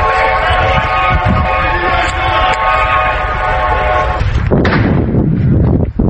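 A loud, steady wailing siren drones over rough background noise at the site of a crash just after it happened, then cuts off into a chaotic burst of commotion with shouts and a couple of sharp clicks like gunshots near the end.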